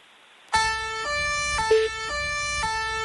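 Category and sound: signal or alarm, police siren sound effect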